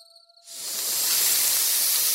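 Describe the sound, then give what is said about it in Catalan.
After a brief hush with faint steady tones, a snake's loud, breathy hiss bursts in at about two in the morning and holds steady without pause, continuous to the end. “Sentiu aquest soroll? Què és? Quina por! Una serp!”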